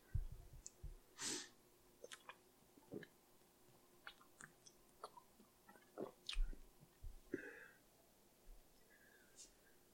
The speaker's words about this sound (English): Ninkasi Brewing Company out of Eugene, Oregon. And this week's Fermented Friday beer of choice is the Vanilla Otis Oatmeal Stout with Vanilla. Let me take another sip, clear my throat